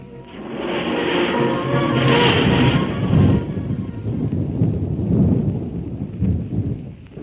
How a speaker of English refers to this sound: As the storm rose, the sky turned to a cloak of darkness. Thunder roared over the black plain, and long slivers of fire snapped against the wet earth.